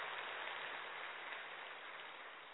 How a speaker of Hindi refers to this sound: हम सभी जोरदार तालियों से उनका स्वागत करेंगे।